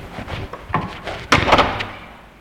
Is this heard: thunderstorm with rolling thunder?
no